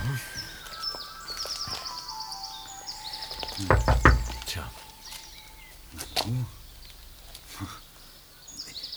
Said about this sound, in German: Ich klopf dann mal.